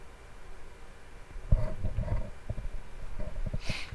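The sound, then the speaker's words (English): A young lion roars at the vineyards of Timnathah, a deep, rough growling that bursts in partway through and rumbles on in pulsing waves until the end, with no talking. “and came to the vineyards, 3754, of Timnathah, and behold, a young 3715 lion, 738, roared 7580 to meet him, 7125, like to meet him in battle.”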